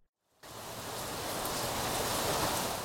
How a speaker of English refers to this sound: Imagine you are walking down a street on a rainy day.